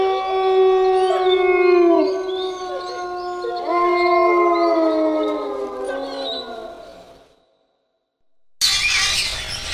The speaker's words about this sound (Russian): Кто был лишним на этот раз? Волк, он так громко выл.